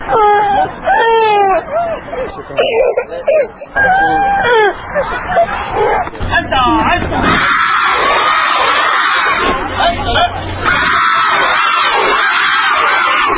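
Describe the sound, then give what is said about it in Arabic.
Young schoolchildren crying and wailing in high, wavering sobs as they line up in the courtyard of Al-Adnaniya primary school in Hillah, Iraq, away from their parents on the first school day, amid a noisy crowd of chattering voices, the crying rising and falling continuously throughout. “إذاعة العراق الحر دخلت مدرسة العدنانية الابتدائية في مدينة الحلة وواكبت ساعات الدوام الأولى والتي بدأت بالبكاء عندما اصطف الطلبة في ساحة المدرسة بعيدا عن أهليهم.”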